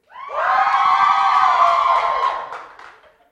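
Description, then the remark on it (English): A crowd cheers loudly all at once, a sustained roar of many voices with high shouts and whoops that swells quickly, holds for about two seconds, then fades out with a few scattered yells. “I expect that kind of cheering at all times now.”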